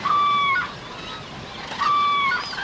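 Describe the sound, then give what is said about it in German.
A large flock of about 2000 cranes on meadows trumpets, with two bursts of loud, overlapping bugling calls rising over a constant murmur of more calls from the rest of the flock. The birds come from Scandinavia, mainly Sweden. “Wir haben jetzt hier auf den Wiesen bestimmt 2000 Kraniche. 2000 Kraniche. Und hört mal hin. Die Trompeten auch.”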